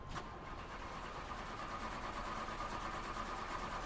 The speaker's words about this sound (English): Okay, I'm gonna try to start the car.